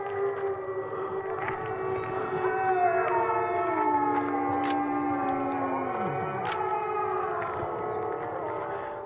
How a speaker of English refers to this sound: It sounds kind of silly, but then listen to what happened. And now all the wolves are howling in response.